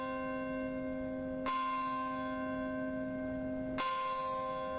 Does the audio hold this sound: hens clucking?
no